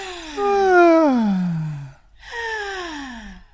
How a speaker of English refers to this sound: And as soon as you want to yawn, stick your tongue out and yawn with your tongue out. And let it come out nice and freely with a big sound.